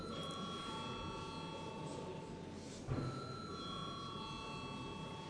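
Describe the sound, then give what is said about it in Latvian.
A parliamentary voting bell rings steadily and continuously, a bright sustained tone, with a low murmur of voices and shuffling in the chamber underneath. It is rung before a vote on urgency for amendments to the law on land commissions. “Aicinu atbalstīt steidzamību grozījumam likumā par zemes komisijām. Lūdzu, zvanu.”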